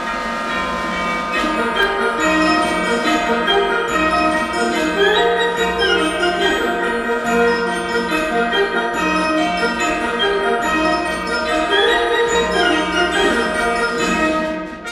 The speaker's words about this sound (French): Qu'y aura-t-il dans un instant? Eh bien, forcément, c'est le carillon de Radio Classique qui va résonner puisqu'il sera 16h.